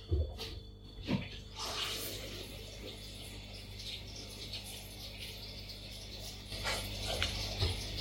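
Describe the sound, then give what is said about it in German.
Water spills and rushes out steadily for several seconds, fairly loud, over a low mechanical hum, with a few brief splashy bursts near the start and end. “Oh, scheiße, scheiße, scheiße, das Wasser ist raus, das Wasser ist raus, das Wasser ist raus.”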